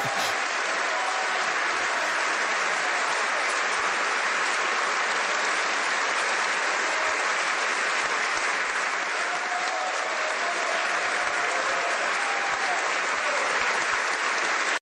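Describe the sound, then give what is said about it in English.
Sustained, dense applause from a large crowd in North Korea, steady and loud for the whole stretch like a standing ovation, with no pauses and only faint indistinct voices mixed into the clapping. “Long applause, maybe like a standing ovation.”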